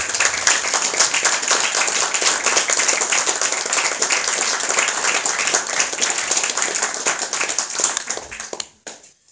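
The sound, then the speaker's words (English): An audience at a poetry event breaks into sustained applause for a poet, many hands clapping densely and steadily for several seconds before it quickly tapers off into quiet. “I was gonna ask you guys to applaud for Mickey Norman.”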